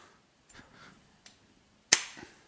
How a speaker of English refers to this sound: I'm going to flip a coin. You have a coin handy? I do. So heads is three, tails is five.